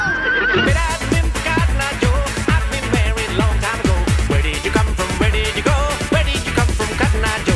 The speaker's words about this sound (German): Und ein Pferd darf natürlich auch nicht fehlen, kommt jetzt hier kurz vor dem Refrain.